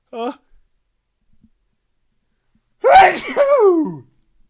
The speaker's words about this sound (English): And I'm going to sneeze now.